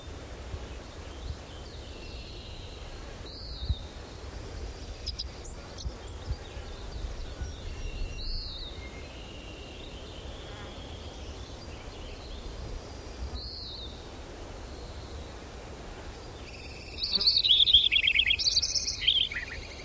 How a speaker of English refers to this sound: Robin in the background.